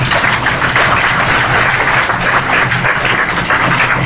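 An audience claps steadily for about four seconds, a dense, even wash of applause that holds at a constant loudness without building or fading, and no voices are heard.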